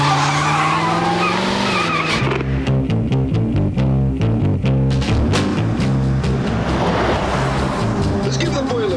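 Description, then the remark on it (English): A convertible car's tires squeal loudly as it skids hard to a stop, followed by a rumbling, pulsing engine and road noise that continues throughout. “God damn, I never rode in a convertible before.”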